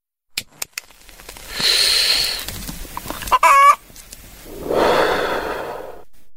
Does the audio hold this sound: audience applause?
no